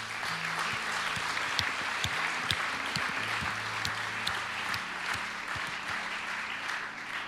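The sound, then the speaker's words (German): A large audience applauds steadily as thanks to everyone, a dense wash of many hands clapping at an even loudness, with a few sharper individual claps standing out. “Euch allen ein riesen Dankeschön und ein riesen Applaus.”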